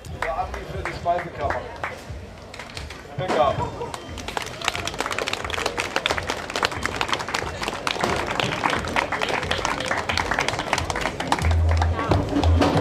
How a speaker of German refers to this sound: Außerdem hält er eine kurze Rede und die Menschen reagieren mit Applaus für die Speisekammer.